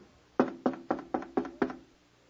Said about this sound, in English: Picture it now, Jesus standing at a door. And this is what the passage says. Behold, Jesus speaking, I stand at the door and knock.